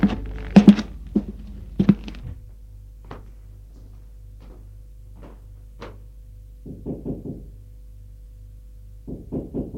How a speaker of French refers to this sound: Et le lendemain, elle va frapper à la porte de la chambre de son frère.